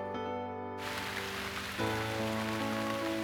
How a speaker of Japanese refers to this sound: 強い雨、すべてを洗い流すような雨。